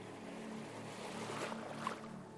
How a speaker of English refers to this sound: So continue to listen to the sound of the sea and enjoy this place